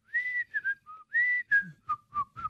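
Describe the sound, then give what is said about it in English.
A single person whistles a short, bouncy tune, the theme of The Andy Griffith Show, in clear notes, sustained tones alternating with quick chirpy ones in a steady rhythm, with no talking. “Does he whistle the theme? You have to when it comes on.”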